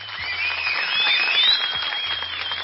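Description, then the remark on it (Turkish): A crowd applauds steadily for a few seconds, a dense wash of clapping hands at moderate volume, with a faint high whistle-like tone threading through it; the applause is sent to actress Serra Yılmaz for her stage performance. “Biz de buradan oyundaki performansından ötürü, Türkiye'ye katkılarından ötürü Serra Yılmaz'a bir alkış gönderelim. Umarım duyumsar kendisi buradan gelen alkışı.”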